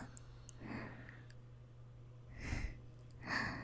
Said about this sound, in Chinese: 怎么呼吸声这么重了？被铐着反而更兴奋了吗？